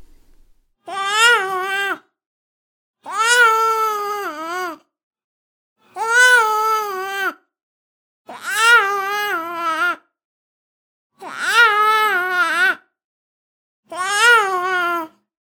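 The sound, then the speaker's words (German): Six separate bursts of a newborn crying in a Japanese-speaking environment, each a loud cry with a complex melody whose pitch rises and falls in several arcs, with short silent pauses between them and no talking. “Beispiele für komplexe, also mehrbögige Melodien im Weinen Neugeborener mit japanischer Umgebungssprache.”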